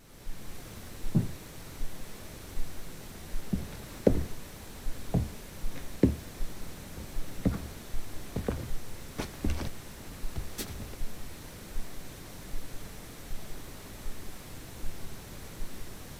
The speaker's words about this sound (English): So you can hear those knocks there. This is what Chris picked up on his recorder. So we only found this when the WAV file was uploaded, and you can see this peak.